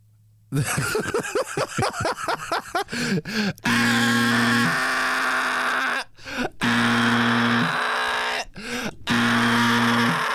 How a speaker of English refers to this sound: This the worst alarm. You lost. This alarm sound like his throat hurt. This alarm sound like it need a halls.